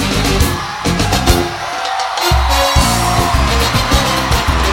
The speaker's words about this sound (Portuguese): Legião do samba tocando e a galera gritando, eu tô feliz.